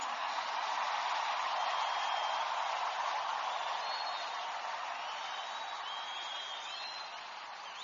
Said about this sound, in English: Give the Lord a bigger clap. Stand on your feet first.